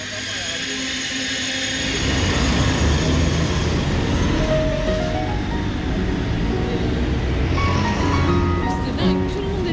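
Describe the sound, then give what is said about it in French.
Busy train station ambience at Nice station, France, on a holiday departure day: a train rumbles loudly and steadily, with squealing metallic tones over the din and faint crowd voices murmuring in the background. “Gare de Nice, jour de départ en vacances, pas de présence policière particulière.”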